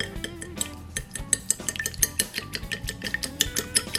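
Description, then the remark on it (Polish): A fork rapidly beats an egg seasoned with pepper and salt inside a bowl, producing a steady stream of quick, bright clinks and scrapes with a wet, sloshing undertone, moderately loud and without any voices. “Do jajka dosypujemy pieprz i sól, a później rozbełtujemy je widelcem.”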